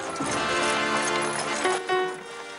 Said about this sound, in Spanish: El carruaje llega a la entrada de la casa.